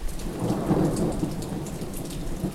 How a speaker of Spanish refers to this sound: Las pequeñas gotas de lluvia que caían estrepitosamente se adherían a esa mata de pelo negro azabache como una finísima capa de cristales.